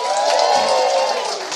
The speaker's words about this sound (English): And that, ladies and gentlemen, is the end of the show. So a round of applause for Death.